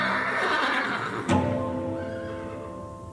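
A horse neighs loudly, a long whinny with a sharp burst partway through that trails off into a wavering, fading call. No one speaks.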